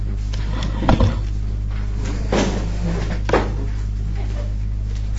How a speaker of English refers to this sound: There are more chairs. Just going to bring in some more chairs from downstairs.